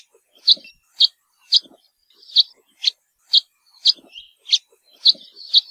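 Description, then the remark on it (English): A house finch, male or female, gives a steady series of short, nasal cheep calls while foraging, about ten evenly spaced notes, in an otherwise quiet setting. “House finch calls, on the other hand, are a rather nasally cheep and are given by both males and females when they're foraging to let each other know where they are.”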